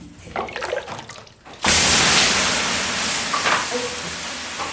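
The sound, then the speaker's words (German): In a Finnish sauna, after a quiet moment of soft clinks and splashes, women throw water (löyly) onto the hot stones of a large sauna stove and it erupts into a loud, broad hiss that keeps steaming steadily, easing only slightly toward the end. “Und dann zischt und dampft es aus dem großen, heißen Saunaofen.”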